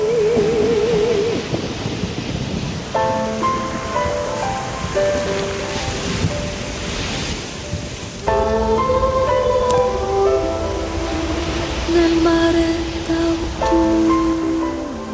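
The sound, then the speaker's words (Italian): Steady wash of autumn sea waves and surf rolling continuously, with soft melodic music playing over the roar throughout. “Eccoci qua nel mare d'autunno”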